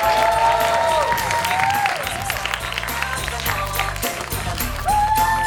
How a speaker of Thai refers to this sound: ขอเสียงปรบมือให้กับ